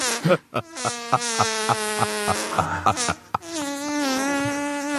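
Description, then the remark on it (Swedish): A long, drawn-out fart, loud, with a buzzy, tonal quality. It sputters in a rhythmic string of short bursts, then stretches into one steady, sustained blast. No one speaks. “Man måste liksom hushålla med fjärten.”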